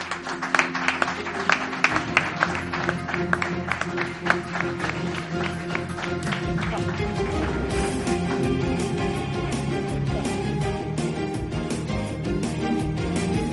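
An audience in León breaks into sustained applause, dense clapping that stays loud throughout, mixed with the Gran Hermano music playing underneath.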